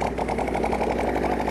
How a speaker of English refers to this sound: All right, drivers, start your engines!